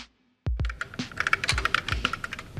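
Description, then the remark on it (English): Rapid, uneven keystrokes clatter on an electric typewriter as a user types a message to the ELIZA chatbot, fairly loud, with a few heavier thumping strikes mixed into the bursts of typing. No one speaks. “A user would type a message on an electric typewriter, and the machine would reply.”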